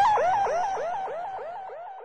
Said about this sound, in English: They were halfway to the amethyst when, off in the distance, a siren began wailing.